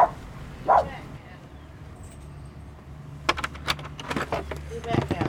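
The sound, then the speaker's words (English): A small perky lap dog named Adam, a family's newest pet, lets out two quick, high-pitched yips, followed by a stretch of light clattering and jangling noises. “Oh yeah, Adam is a perky little lap dog.”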